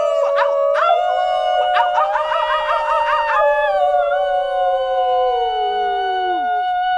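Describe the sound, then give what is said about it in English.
People howl like dogs in one long, wavering cry, loud, with a few yelping breaks early on before the howl trails off and slides down in pitch. “Howl with us in your car.”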